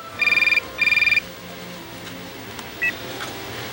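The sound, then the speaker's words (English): A telephone rings twice in quick, trilling electronic bursts, followed by a faint hiss and a single short beep, with no one speaking. “Why don't we play back that phone call that you just described?”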